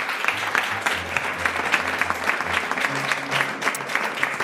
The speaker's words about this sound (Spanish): un aplaudiment per les persones i per la IA, que també ha participat, no?